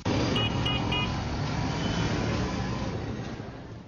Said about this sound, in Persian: ازدحام ترافیک تنها مشکل در این شهر نیست. صدای دلخراش ریکشاها، هارن های مختلف و بلند موترها در داخل شهر غیر قابل تحمل است.